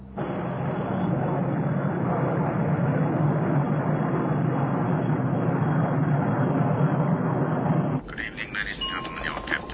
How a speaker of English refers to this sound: Is that our plane?